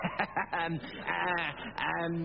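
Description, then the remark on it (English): A voice imitates a goat, one of the three billy goats guarding a bridge, letting out a series of wavering, nasal bleats with shaky pitch, loud and continuous over about two seconds. “We don't do that anymore. We're goats now.”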